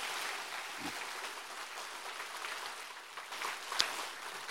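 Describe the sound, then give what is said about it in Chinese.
A crowd at a Buddhist talk applauds after hearing two jokes, with steady, dense clapping that fills the whole stretch at a fairly soft, even level, with one sharper clap standing out near the end. Nobody speaks. “哎呀，前面讲了这么好都没掌声的，听了两个笑话掌声这么多，气死我了。”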